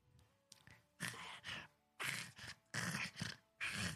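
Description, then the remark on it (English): A person's voice imitates a creature howling something in a weird guttural language, in four loud, rasping bursts with brief pauses between them, after a short breathy sound at the start. “And its eyes are pointing in slightly different directions, and it sort of turns its head back to the warehouse, howls something in a weird guttural language you don't know about.”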